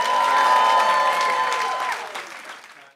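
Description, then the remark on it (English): A live crowd claps and cheers loudly, a dense wash of applause with a few whoops on top, holding steady before tapering off over about three seconds. “Let's get a round of applause as we go to commercial break.”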